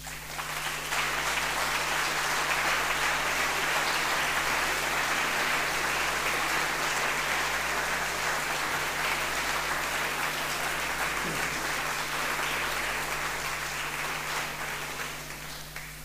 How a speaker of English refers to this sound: Could the committee put a hand up, please, and let's give them a clap.